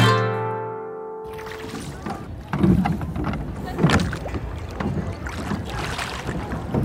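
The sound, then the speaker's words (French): A small boat being rowed on water under cherry trees with a small family aboard, oars splashing and dipping in a steady rhythm over a breezy wash of water, after a brief sustained tone fades out at the start. “Là-bas, c'est très joli parce qu'il y a une petite famille à bord d'une barque.”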